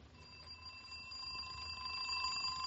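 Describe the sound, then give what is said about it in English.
An alarm clock rings steadily and without pause, a bright metallic jangle that swells slightly louder toward the end, heard alone with no voices. “Oh, what was that? The alarm clock.”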